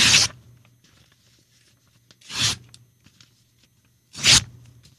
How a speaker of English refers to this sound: Was he ripping paper up? Yeah. And I said, tearing up your New Year's resolution.